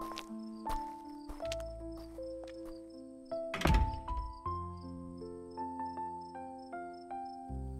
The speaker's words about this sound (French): La porte se referme sur eux.